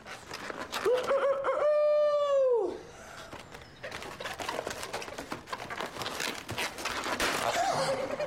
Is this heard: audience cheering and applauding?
no